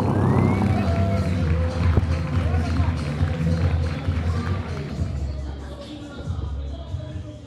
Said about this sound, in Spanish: Por favor, reciban a la eminencia del planetario de Medellín, al señor Jorge Zuluaga. Un aplauso para él.